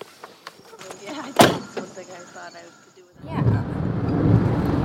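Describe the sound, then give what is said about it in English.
A car door shuts with a single loud thunk after some soft shuffling as someone gets in the car, getting ready to leave, and a moment later a steady low rumble fills the background. “We're going, getting in the car, getting ready to leave.”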